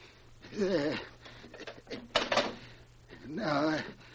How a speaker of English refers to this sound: Quit stalling. Spin that combination. I'm a little bit nervous.